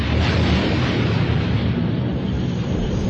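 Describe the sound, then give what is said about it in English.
Loud, deep explosions rumble close by, merging into a continuous booming roar that fills the whole stretch without pause. No voices are heard. “At the sound of nearby explosions, Ren ceased his probing.”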